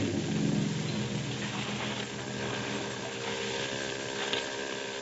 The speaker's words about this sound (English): Yeah, he's still up ahead. Better not steer directly to where the sound of his motor's coming from.